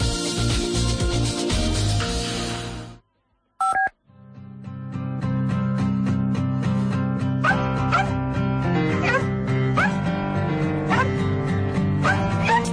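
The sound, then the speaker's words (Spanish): A crowded chorus of dogs barks, yips and whimpers all at once, loud and continuous, following a brief beep and a short moment of silence. “¿Te imaginas en un mismo lugar a 1000 perros reunidos y a unos metros más allá 300 gatos y nada, un poquito más al ladito 200 conejos y algún que otro animal exótico?”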